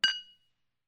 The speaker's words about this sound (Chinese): 来，喝点红酒，心情就会放松一些了。嗯，是呢，我录音声压力比较大的时候就会喝一点红酒来放松一下心情，你也来试试吧。干杯。